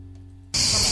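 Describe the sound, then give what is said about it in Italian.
After a near-silent moment, a loud, dense buzzing of cicadas in Sansepolcro abruptly starts and holds steady, a shrill high-pitched drone filling the outdoor air. “Ah, queste sono le cicale di Sansepolcro, non vi spaventate.”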